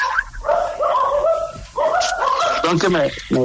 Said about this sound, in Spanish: Oh, sí. Están ladrando. Esos perritos chiquitos, además, ¿sabes?